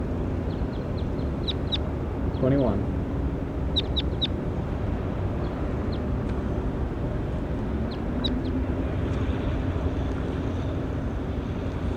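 bird calling

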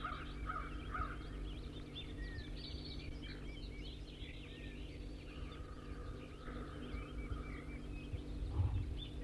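wild bird singing

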